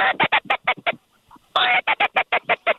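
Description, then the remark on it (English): Loud duck quacking heard from a hunting blind on the opening day of teal season, in two rapid bursts: a fast rhythmic string of harsh quacks, then a short lull before another run of about a dozen quacks. “Yeah, there's a few birds around.”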